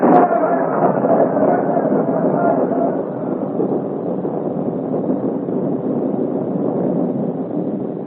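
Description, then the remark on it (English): A steady, unbroken roar of storm wind and heavy downpour, a dense rushing wash of noise that holds a constant loudness for the whole stretch, with no voices. “The storm has fought upon our side. They'll never find us in this downpour.”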